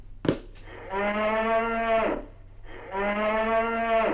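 A cow moos twice, each a long, low, droning bellow with rich harmonics lasting about a second, separated by a short pause. A brief sharp knock or click comes before the first moo.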